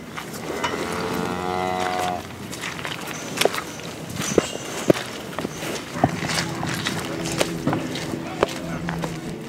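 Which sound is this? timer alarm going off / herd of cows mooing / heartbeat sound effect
herd of cows mooing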